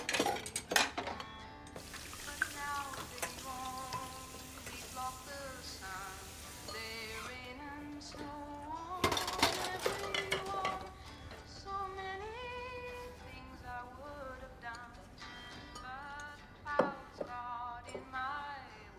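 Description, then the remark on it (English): Dirty dishes clink and clatter into a sink in a few scattered bursts, with a splash of water, while a steady melodic tune plays in the background. “She takes dirty dishes to the sink.”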